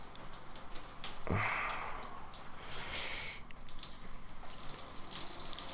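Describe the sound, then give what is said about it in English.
Hot water runs steadily from a shower, a soft continuous hiss and patter with a brief sharper splash early on, quiet, with no one talking. “Hey, quit hogging all the hot water.”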